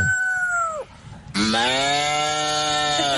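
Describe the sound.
A person imitates a rooster's crow in a video of a human imitating animal cries: a short strained call, a brief pause, then a longer, louder sustained crow, clear with no other voices.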